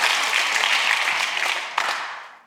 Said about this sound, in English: Can you give a clap for that?